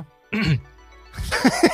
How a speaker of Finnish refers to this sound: Yskitti.